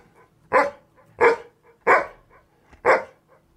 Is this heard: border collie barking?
yes